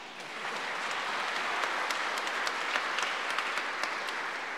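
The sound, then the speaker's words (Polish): A crowd applauds steadily, a dense wash of many hands clapping at an even level, with sharper individual claps popping out now and then. No one speaks. “Także wielkie brawa.”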